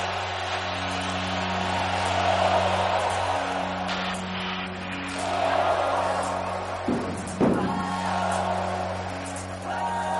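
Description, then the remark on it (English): A loud, sustained roar of a large home crowd cheering in a new NFL stadium during a Minnesota Vikings game on third down and 8, swelling and surging in waves, with a steady low hum running underneath and no clear talking. “This crowd is fired up. The noise deafening.”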